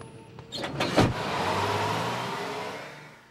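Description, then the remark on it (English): A bus pulls up at a street bus stop, rolling to a stop with a brief hiss of brakes, then its engine keeps rumbling steadily at a moderate level. No one speaks. “A bus pulls up and he jumps aboard.”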